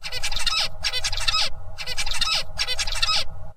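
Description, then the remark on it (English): Zebra finch tutor song, the song young birds copy: four squeaky, buzzy bursts of rapid notes repeating in a regular rhythm over about three and a half seconds, loud, with a low rumbling background hum. “This is typical zebra finch song, so it's, as you can hear, it's kind of squeaky, it's not very melodic”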